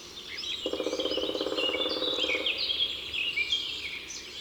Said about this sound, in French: Au printemps, en forêt, on entendra peut-être tambouriner le pic noir.